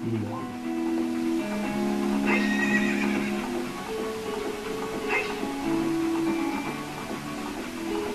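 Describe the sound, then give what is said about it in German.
A horse whinnies with a wavering, drawn-out neigh, its hooves clip-clopping steadily. No one speaks. “Hey Junge, du hast aber ein tolles Pferd.”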